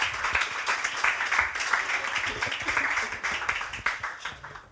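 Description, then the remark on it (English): A crowd applauds guest Rufus Hound with dense, continuous clapping that stays fairly steady for several seconds, an ovation that tapers slightly at the end. “Yes, a round of applause.”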